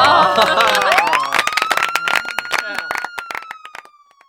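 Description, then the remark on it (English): A single rising ambulance-siren sound effect wail that holds and slowly sags, heard over a lively crowd clapping and cheering, the noise thinning out toward the end. “Can somebody please call an ambulance?”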